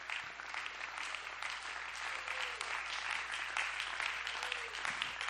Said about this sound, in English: Let's clap our hands one more time here this morning.